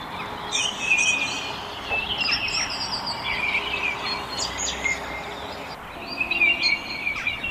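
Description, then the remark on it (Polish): A common kingfisher call recorded from the internet plays back to lure a kingfisher, as a series of thin, shrill, high-pitched whistles repeated every second or so, moderately loud over a steady outdoor hiss, with no talking. “Dosyć trudno jest go dostrzec, ale ja mam swój sposób na to, a mianowicie należy głos z internetu przywołać zimorodka i ten ptak na pewno pojawi się dosyć szybko w naszej okolicy.”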